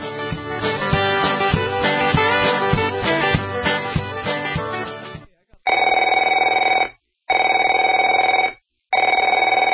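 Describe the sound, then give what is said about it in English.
Music plays for a few seconds, then stops, and a telephone rings in three loud, steady bursts separated by short pauses, a bright buzzing bell tone repeating. “Afraid to answer it?”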